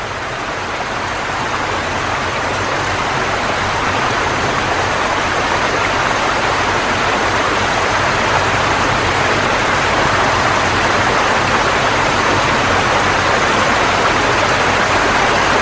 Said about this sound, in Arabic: ما أدى إلى هطل أمطار غزيرة ناجمة عن عواصف عنيفة على الصحراء، فغرقت بلدات وقرى بالماء في جميع أنحاء البيرو، وشكلت الفيضانات فاجعة. فوق بلدة كوركونا الصغيرة حول المطر المنحدرات القاسية والجافة إلى منزلق صخري هائل.